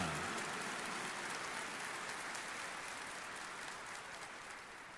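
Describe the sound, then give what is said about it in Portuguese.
A steady wash of audience applause given to Our Lady Aparecida before a Eucharist, many hands clapping at once in a dense, hissing texture that holds fairly even for the full five seconds with no voices over it. “E nós estamos com vontade, então vamos bater mais uma salva de palmas.”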